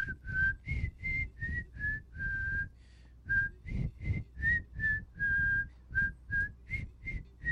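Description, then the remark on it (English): Someone whistles a made-up imitation of a shamanic icaro song: a simple, chant-like melody, a steady run of about sixteen short pulsing notes with brief breathy gaps and a couple of longer held tones, with no talking. “So it's like they have whistling as part of it.”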